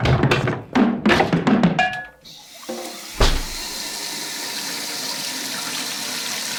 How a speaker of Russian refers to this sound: Надо же снова воды набрать, чтобы она отстоялась и было чем поливать растения в следующий раз.